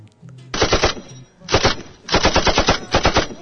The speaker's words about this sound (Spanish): vienes pegando tiros, ¿no?